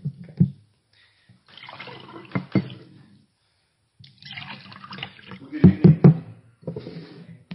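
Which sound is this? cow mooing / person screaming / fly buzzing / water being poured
water being poured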